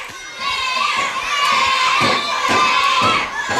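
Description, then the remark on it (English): The home crowd cheers and shouts loudly at a Clare versus Galway match, a dense, sustained roar of many high, excited voices that swells in waves and stays strong for several seconds. “No doubting the home crowd are in fine voice here as well down in front of us.”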